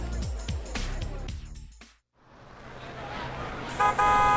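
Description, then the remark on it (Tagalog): A jeepney's engine rumbles loud and chugging, then briefly fades before traffic noise builds again and a single sustained horn blast sounds near the end. “Tara na, yun na yung jeep.”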